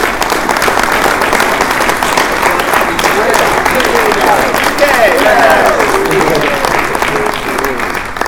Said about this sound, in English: So if we maybe just have a quick round of applause for our US team and our UK team.